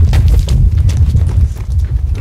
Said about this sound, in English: And you're walking through the black, and all you hear is like the sound of our feet crunching.